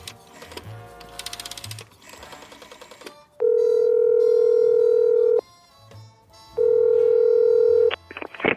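A telephone is dialed with a rapid mechanical clatter of clicks, then two long, loud, steady ringing tones sound with a short pause between them. No one speaks.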